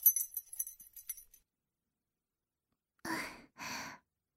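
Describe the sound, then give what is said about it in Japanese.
A brief jingle of room keys being handed over, light metallic clinks tumbling together for about a second, then silence, followed by two soft, breathy sighs. “勇者様のお部屋はこのフロアですよ。こちらが鍵です。”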